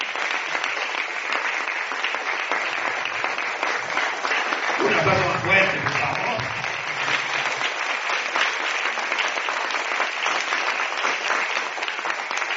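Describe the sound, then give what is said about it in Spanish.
An audience claps steadily and loudly for several seconds in applause for Jesus, a dense sustained patter of many hands, with a brief swell of voices and cheering in the middle. “Le damos un aplauso a Jesús.”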